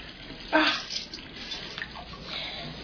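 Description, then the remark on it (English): Hot water pours steadily into a bathtub with a continuous splashing hiss, briefly surging louder near the start before settling into an even rush. “Oh, at least the water's hot.”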